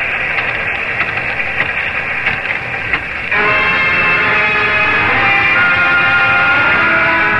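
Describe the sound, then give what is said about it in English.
A freight train nearing Plattsville rumbles past with a steady, dense roar and rattling of cars; after about three seconds the sound swells louder with a sustained, tonal squeal or hum layered over the clatter. “A freight train neared Plattsville.”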